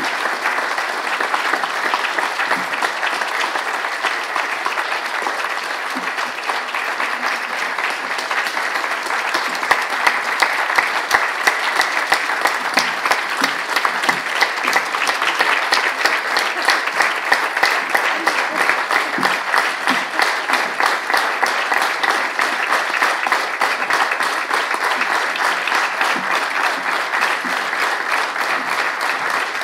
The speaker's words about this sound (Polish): I jeszcze raz oklaski dla nich za tę pracę, którą wykonali.